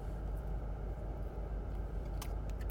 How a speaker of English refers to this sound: I'm chewing loudly.